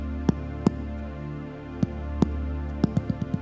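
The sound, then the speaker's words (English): Heartbeat thumps over a steady low hum, arriving in spaced pairs at first, then quickening into a rapid cluster near the end. The beats are crisp, with no talking. “That is your heartbeat.”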